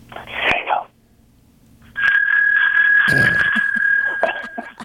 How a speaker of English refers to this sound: Okay. Pull your dinger out. Okay. And go ahead and ring the bell when you feel like you're not going to get busted.